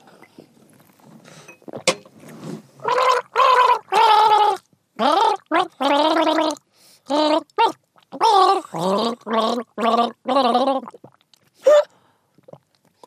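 A person gargles liquid in a string of about a dozen short voiced bursts, the bubbling tone wavering up and down in pitch as if gargling a tune, with brief pauses between bursts.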